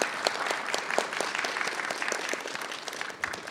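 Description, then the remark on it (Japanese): An audience at a company presentation applauds to welcome the president of LA Holdings, listed on the Tokyo Stock Exchange Growth market, a dense wash of many hands clapping with sharp individual claps popping through at an even, sustained level and no voices. “皆様拍手をお願いいたします。”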